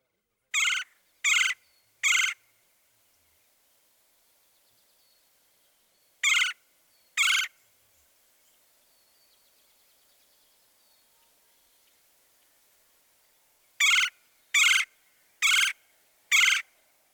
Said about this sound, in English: Now the nasal trill of the red-bellied woodpecker.